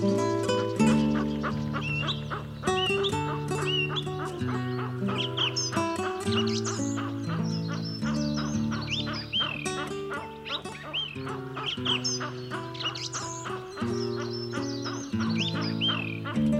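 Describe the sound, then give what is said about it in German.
A western capercaillie calls in a dense, continuous series of clucking, gurgling notes, fairly loud, layered over steady droning tones that run without pause through the whole stretch. “Das war das Auerhuhn.”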